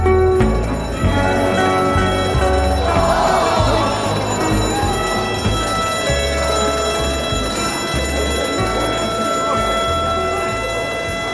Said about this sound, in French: Le 11 juillet 2015, les alarmes de l'Altiplano se sont mises à crier en chœur.